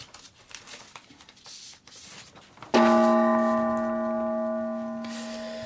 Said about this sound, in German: Und ich gehe schon mal an den Gong.